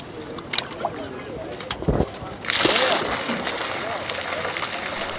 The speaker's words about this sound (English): Cray, along with MSU students and staff, tossed buckets filled with jumpy steelhead into the river.